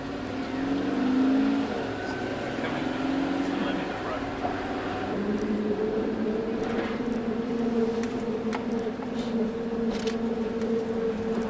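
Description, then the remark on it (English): A school bus crossing a drawbridge by the levee in the Lower Nine: a steady engine drone holds throughout, with scattered metallic clicks and rattles toward the end as the bus rolls over. “If he's going to drive a school bus over it, I guess it's okay.”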